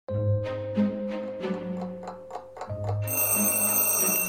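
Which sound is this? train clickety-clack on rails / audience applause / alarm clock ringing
alarm clock ringing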